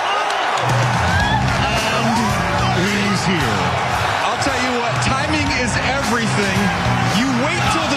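A huge stadium crowd in Green Bay roars and cheers without letup as the Green Bay Packers draft wide receiver Matthew Golden of Texas in the 2025 NFL Draft, a loud, dense wall of voices full of overlapping yells and whoops that stays intense for the whole stretch.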